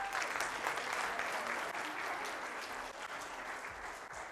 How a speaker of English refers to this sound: Okay, everybody give a round of applause for our winners today.